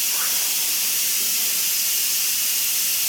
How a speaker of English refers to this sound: So this is the steam coming out.